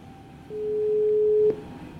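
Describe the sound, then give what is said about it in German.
A single steady telephone ringing tone of an outgoing call sounds for about a second, a clear mid-pitched electronic beep heard alone over quiet line hiss, with no voices. “jetzt rufe ich mal an und mal gucken, ob, ob Ralf ans Telefon geht”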